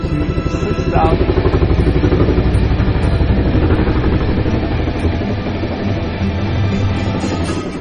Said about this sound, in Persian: این هواپیمای 2.8 تنی قادره تا به سرعتی بالغ بر 140 گره برسه و به ارتفاعی حداکثر تا 9096 متر صعود کنه.